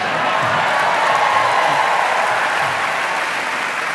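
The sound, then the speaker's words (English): Steady, loud applause from a live audience, with a dense wash of clapping and some cheering sustained evenly across the whole stretch without a break. “You're a little quiet there compared to this crowd here.”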